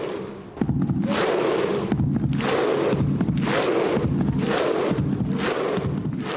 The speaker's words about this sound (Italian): Schierati su più file, i giocatori battono ritmicamente le mani sopra la testa e migliaia di tifosi di fronte fanno